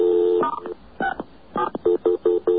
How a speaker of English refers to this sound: We very distinctly dialed *67 first to block the numbers. So let's see what happens.